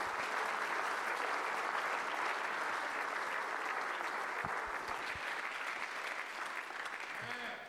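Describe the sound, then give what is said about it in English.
An audience at a church service claps their hands unto the Lord in sustained, dense applause, steady, loud and continuous, with a few murmured voices mixed in before it starts to taper off. “Oh, clap your hands one more time unto the Lord.”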